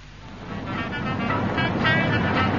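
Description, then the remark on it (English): A car drives along a road toward Devon with a steady, broad engine and tyre rumble that swells slightly louder over a couple of seconds, with no voices. “Darling, are you planning to drive all the way to Devon non-stop?”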